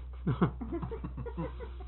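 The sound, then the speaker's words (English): A turkey clucks and gobbles in a quick run of short, throaty bursts, loudest near the start and trailing into softer chatter, sounding slightly muffled as if played through a small speaker. “Parrot? No, got that turkey.”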